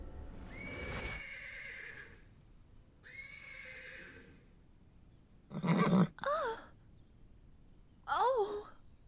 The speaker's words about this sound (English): Did you just summon a horse? I think it's on fire right now. No, look, its hooves are leaving scorch marks in the grass.